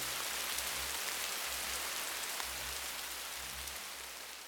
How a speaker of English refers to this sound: Oh, rain at last!